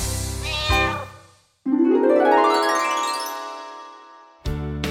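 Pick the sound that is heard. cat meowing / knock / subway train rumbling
cat meowing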